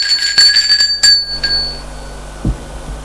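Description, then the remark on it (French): A doorbell, rung by Alexis's mother at Mathieu's mother's home, rings in a quick burst of bright, high metallic dings, about six in a row, then the tone fades into quiet, followed by a soft low thump. No one speaks. “Pendant ce temps, la mère d'Alexis sonne chez la mère de Mathieu.”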